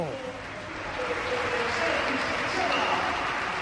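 stadium crowd standing ovation

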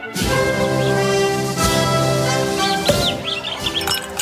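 rap song playing

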